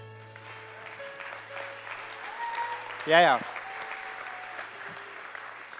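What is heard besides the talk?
audience applause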